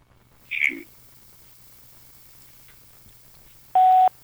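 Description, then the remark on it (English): A telephone call placed live on air during a radio show sounds on the phone line: a brief electronic chirp, a pause, then a loud steady electronic tone lasting about a third of a second, with no talking. “Nothing like on-air phone ringing.”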